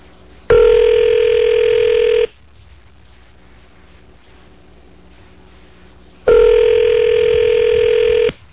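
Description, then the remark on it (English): Two long ringback tones from an outgoing phone call by The Rosie O'Donnell Show to John McDaniel, each about two seconds with a steady electronic buzz, separated by a quiet pause with faint background hum; no one speaks. “No, no, really pick up the phone.”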